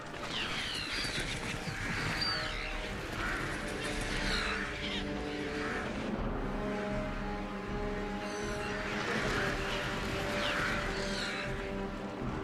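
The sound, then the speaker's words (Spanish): A large flock of black birds, the crebain from Dunland, caws continuously as it flies low over the ground, many harsh overlapping calls filling the air loudly, with a dense fluttering rush of wings beneath. “Una bandada de aves negras vuela sobre ellos casi a ras de suelo.”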